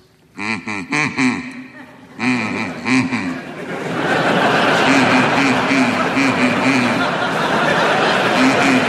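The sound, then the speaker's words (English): Two quick clusters of nasal, buzzy duck quacks ring out, each a rapid run of honks, then a swelling wash of crowd laughter and applause takes over and carries on to the end. “would you be good enough to make your duck quack now, please?”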